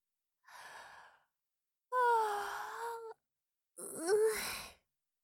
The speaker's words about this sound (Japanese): ほら、なんだか眠くて、あくびが出てきちゃう。